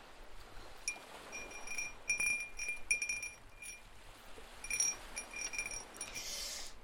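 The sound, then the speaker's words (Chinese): Light glassy clinks from a wind chime cup, bright ringing tones sounding in scattered clusters, busiest early and again midway, fairly faint with a soft hiss underneath and no voices. “来听一下《风铃杯》，之前好像做过一次。”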